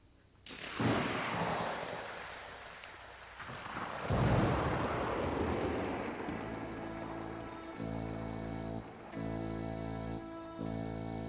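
Two heavy rolls of thunder crash and rumble away over a steady hiss of rain on a stormy day in Scotland, then sustained droning music tones begin playing beneath the storm.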